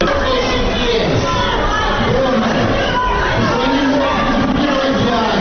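A group of unknown people in a hall in Dnipropetrovsk, Ukraine, shouts "Shame" together during the swearing-in of mayor Borys Filatov, a loud, steady din of raised voices and chanting that carries on without a break, with overlapping chatter throughout.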